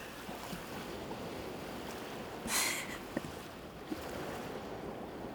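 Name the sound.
ocean waves and surf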